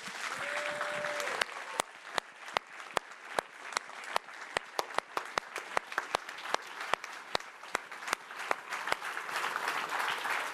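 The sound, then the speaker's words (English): An audience at the Cannes Film Festival applauds steadily for about ten seconds as critic Michel Simon is welcomed, a dense patter of many hands punctuated by sharp, evenly spaced claps. A brief whistle-like tone sounds near the beginning. “Et il va venir ici en gravitation, en lévitation, sous vos applaudissements, sans doute aussi spontané.”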